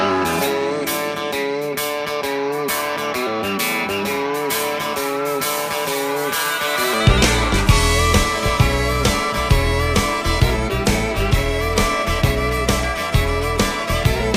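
An upbeat country song plays loud and close, opening with bright instruments before a heavy bass and steady drumbeat kick in halfway through; no voices are heard.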